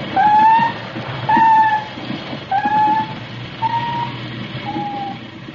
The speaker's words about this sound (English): Now the sound detectors deep down beneath the waterline, picking up squeals and howls and all suspicious hums.